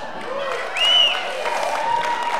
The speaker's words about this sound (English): She deserves all the applause.